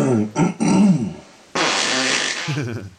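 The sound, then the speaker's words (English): A loud fart, made by a person during sleep, comes in a few quick sputtering bursts, pauses, then returns as a longer, rougher, breathy blast lasting over a second. No one speaks. “Probably did a little fart and hooed out loud. Like this one.”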